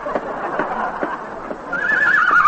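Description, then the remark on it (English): In a hospital scene, a man who thinks he's a horse imitates one. He gives breathy, rhythmic snorts followed by a loud, high, wavering neigh that rises and trembles toward the end. “He thinks he's a horse.”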